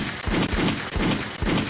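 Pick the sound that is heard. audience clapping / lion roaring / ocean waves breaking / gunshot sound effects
gunshot sound effects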